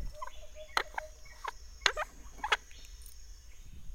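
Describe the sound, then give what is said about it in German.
The lid of a large treasure chest full of coins, on a jungle path, creaks open in a few short, squeaky, strained bursts, fairly loud, over a quiet steady hum with no one speaking. “Los, mach sie auf.”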